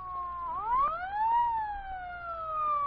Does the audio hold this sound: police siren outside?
yes